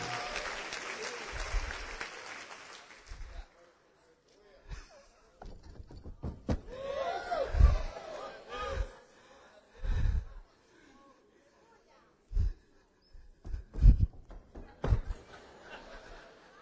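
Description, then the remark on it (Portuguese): An audience at a worship service claps, then stamps its feet in heavy, fairly regular thuds as if trampling demons, with scattered voices and laughter mixed in among the stomps. “Está mais para catira do que pisar demônio.”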